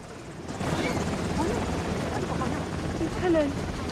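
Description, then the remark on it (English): A helicopter lands on one side of a border fence, its rotor noise a loud, steady roar that fills the whole stretch, with faint voices drifting underneath. “A chopper lands on one side of the border fence.”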